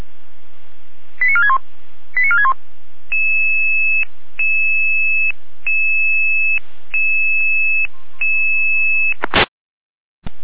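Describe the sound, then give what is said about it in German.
A fire brigade radio alarm call tone sequence for a door-opening emergency in Neustadt: two quick descending chirps, then a series of about six steady electronic tones separated by short gaps, ending in a sharp click before silence. “Leitschwein Alarmruf.”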